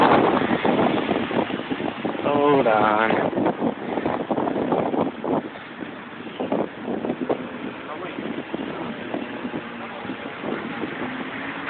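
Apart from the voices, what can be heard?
strong wind blowing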